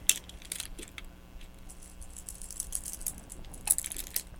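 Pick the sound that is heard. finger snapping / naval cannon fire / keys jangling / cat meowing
keys jangling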